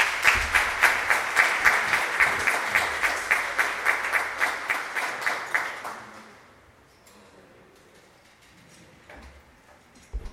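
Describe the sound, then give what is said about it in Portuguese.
An audience claps in a steady, almost rhythmic burst of applause for about six seconds, for invited authorities at a Câmara Municipal de Garça ceremony honoring health workers, then the clapping fades into quiet room murmur with a few scattered claps at the end. “Uma salva de palmas a eles também.”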